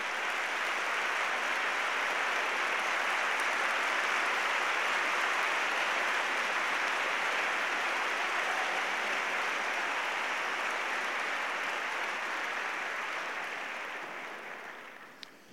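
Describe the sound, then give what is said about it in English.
A large audience in an arena at a Cornell lecture applauds guests as they stand, a dense, steady roar of clapping that holds for about fourteen seconds before quickly tapering away. No voices rise above it. “Please give them a round of applause as they stand.”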